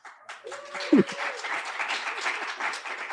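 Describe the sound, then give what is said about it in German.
Scattered audience applause in an air-conditioned library at the Umweltcampus Birkenfeld during an open day on a Saturday at 1 pm, steady clapping from a modest crowd with a brief louder burst near the start and faint voices mixed in. “Ein bisschen Applaus hier aus der Bibliothek.”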